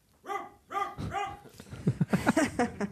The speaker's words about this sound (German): In der Ferne bellt ein Hund.